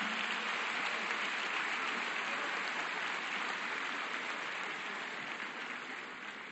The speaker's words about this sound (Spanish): Le brindemos ese aplauso, ese apoyo, compañeros.